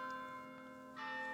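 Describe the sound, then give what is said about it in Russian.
Church bells of the Latrun monastery, which ring every 15 minutes, sound with a sustained, shimmering hum of overlapping tones, then a fresh strike swells in near the end. They sound quiet, with no voices. “Каждые 15 минут в монастыре Латрун бьют колокола.”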